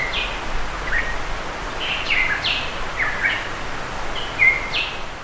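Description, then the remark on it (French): A Tahiti monarch, a small, very rare black bird endemic to Tahiti, calls repeatedly, a series of short bright chirps and whistled notes in loose rhythm over a steady hiss of forest ambience, moderately loud. “Oiseau endémique de Tahiti, monarque de Tahiti, un petit oiseau noir très rare vivant dans les forêts humides.”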